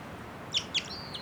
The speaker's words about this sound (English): That bird I think might be a male. And it's giving some song now.